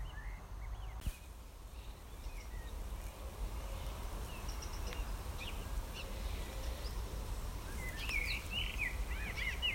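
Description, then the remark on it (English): Faint birdsong in trees under a dull, brooding sky: scattered chirps and short trills that grow busier toward the end, over a steady low outdoor rumble. No one speaks. “Although the sky is very dull and brooding, the landscape is very much alive, and you can still hear the beautiful sound of the bird song in the trees.”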